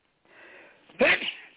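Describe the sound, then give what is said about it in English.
A single loud sneeze: a soft breathy intake builds for half a second, then bursts into a sharp explosive blast that trails off quickly. “God bless you.”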